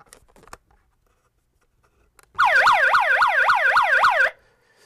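A small handheld megaphone's built-in electronic emergency siren, set off with its button, wails loudly for about two seconds, rapid rising-falling sweeps repeating in a fast cycle, preceded by a few faint clicks and handling noises.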